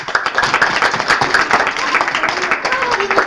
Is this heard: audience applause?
yes